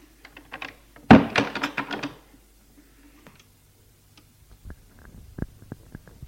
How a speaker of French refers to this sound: Frappe à une porte. L'ouvre et rentre Gilles et ferme la porte.